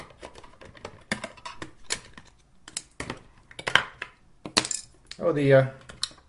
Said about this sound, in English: I might cut out the silence, or you might get to hear banging and clunking of screwdrivers.